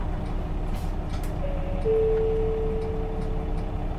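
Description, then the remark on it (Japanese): A bus engine rumbles low and steady, then a rising whine joins in about halfway through as the vehicle begins moving off. No voices are heard. “車します。おつかまりください。”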